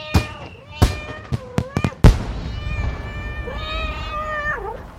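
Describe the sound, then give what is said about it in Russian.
A rapid string of sharp firework bangs from City Day fireworks in Irkutsk, about seven cracks over two seconds, mixed with high, drawn-out kitten meows that continue and rise into a long wavering yowl once the explosions stop. “Фейерверк в городе Иркутск на день города котятами.”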